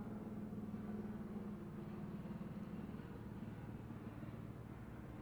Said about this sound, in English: Okay. I'm going to wait for the airplane. I don't think that's an airplane. That's a fucking helicopter. There must be shenanigans afoot.